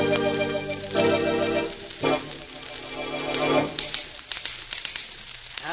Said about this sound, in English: Wonderful invention, the typewriter. Yes, what would modern business do without it? Imagine doing all that work by hand.